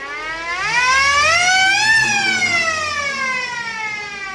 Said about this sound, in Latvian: Kas tas par griežumu aparātu? Tā ir rokas sirēna. 20. gadsimta 30. gados ugunsdzēsējiem bija arī darbs pretgaisa aizsardzība. Kad notika uzlidojumi, tika dota trauksme ar šo te sirēnu.